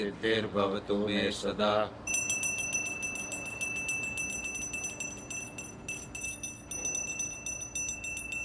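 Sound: hand bell ringing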